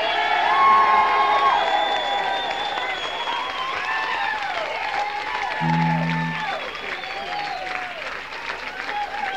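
A live audience claps steadily and loudly throughout for a guest performer, with scattered whoops and cheers rising over the dense applause, and a brief low hum sounding midway.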